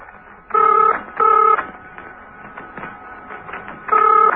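Steed's telephone rings unanswered with a call from Colonel James at Old Hill Monastery, in loud, warbling bursts: two quick rings in succession, a pause, then a third ring, each a bright, trilling electronic tone over a faint background hum.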